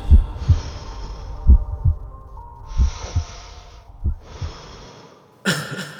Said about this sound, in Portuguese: Quando eu tô no estúdio, tudo começa a ficar lento. Eu sinto o meu coração batendo devagar. Batida por batida.